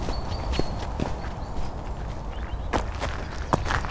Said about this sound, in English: OK, well, let's take a wander back down through the sheep, down to the farm.